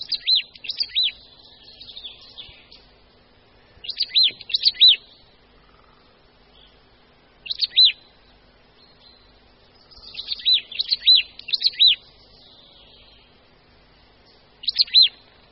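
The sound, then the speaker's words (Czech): A marsh tit, a small bird smaller than a sparrow, sings in short, bright bursts of rapid repeated notes, pausing a few seconds between phrases, clear against a quiet background with no voices. “Svým zpěvem se nám představila jedna z našich síkorek, síkora babka.”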